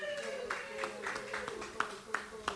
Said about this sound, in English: Give her a round of applause, everybody.